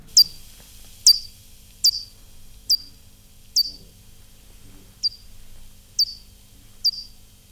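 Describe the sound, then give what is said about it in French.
A bat's echolocation calls played back ten times slower, a steady series of eight sharp, downward-sweeping chirps about one second apart, sounding almost birdlike over a quiet low rumble. “Alors je vous préviens, ce n'est pas un oiseau, hein. C'est bien une chauve-souris.”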